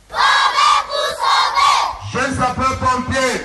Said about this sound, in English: Taking the knee and shouting to the top of their voices, some of the youngest firefighters took the oath of giving their best to save lives in the case of any natural or man-made disasters.